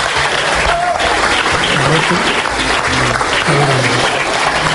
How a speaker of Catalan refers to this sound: Espera, que veig Alfonso Alonso, la seu del PP del País Basc, d'Euskadi. Anem a veure Alfonso Alonso. Escolteu-lo. Aplaudiments. Sí. Aplaudiments.